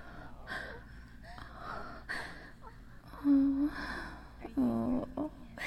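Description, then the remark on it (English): A voice imitates a woman's heavy, panting breaths and sharp gasps, fairly loud, with two longer voiced gasps standing out toward the end. “Are you hearing any heavy breathing?”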